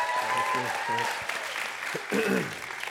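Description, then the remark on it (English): A crowd bursts into steady applause to welcome a speaker coming to the pulpit, dense overlapping claps filling the whole clip at a fairly loud level, with a few voices calling out and chattering underneath. “You clap now.”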